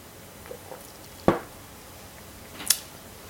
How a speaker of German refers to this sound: Sorry, Schluck Wasser.